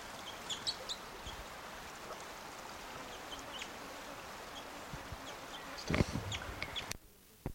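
crossbill soft calls

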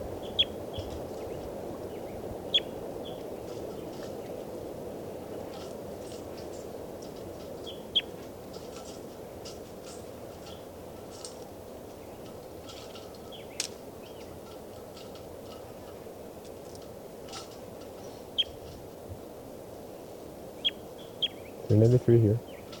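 bird song

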